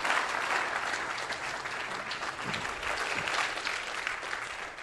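A crowd applauds steadily, many hands clapping in a dense, sustained patter that holds at an even, fairly loud level for several seconds without any talking.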